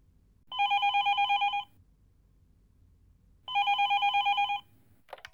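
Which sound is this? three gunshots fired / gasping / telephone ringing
telephone ringing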